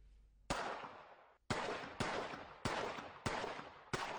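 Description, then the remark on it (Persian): Six loud gunshots fire in quick succession, roughly half a second apart, each sharp crack trailing off into a lingering echo, with no voices present; a gunman attacking a daycare centre around lunchtime in Uthai Sawan, Thailand, about 500 km northeast of Bangkok. “شلیک‌های پی در پی فرد مسلحی که حوالی وقت نهار با حمله به مهد کودکی در شهر اوتای ساوان تایلند واقع در 500 کیلومتری شمال شرق بانکوک دست کم جان 20 کودک خردسال و 18 بزرگسال را گرفت.”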